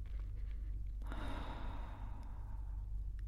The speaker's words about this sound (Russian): И делаем последний выдох через рот.